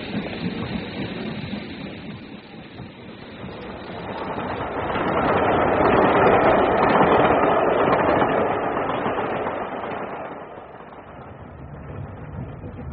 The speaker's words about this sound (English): If it's a Glasgow train you want, you missed it.